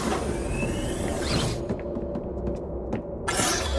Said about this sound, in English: Please step into the room with your group. The door will shut behind you.